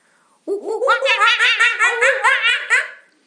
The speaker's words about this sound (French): Oui, ce sont les petits singes de la troupe du roi Louis. De vrais petits chapardeurs, querelleurs, qui passent leur temps à embêter, à agacer, turlupiner tous les animaux de la forêt.